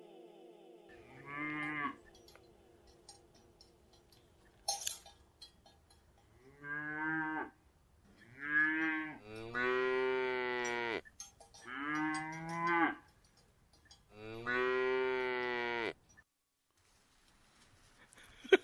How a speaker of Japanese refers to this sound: 牛もいたし。